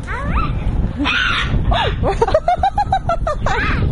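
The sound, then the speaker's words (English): Colourful parrots trade harsh, chattering calls back and forth in quick bursts, as if arguing, a run of sharp repeated squawks rising over a noisy, rumbling background, fairly loud. “I think they're having an argument. Don't think they're very happy with each other.”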